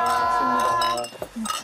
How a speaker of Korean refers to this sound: 짠 할까요? 네. 반갑습니다. 반갑습니다.